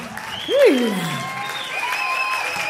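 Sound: audience clapping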